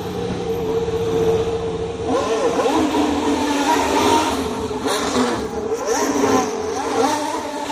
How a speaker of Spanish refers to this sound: Escuchamos el ruido del coche y a Carlos Sainz.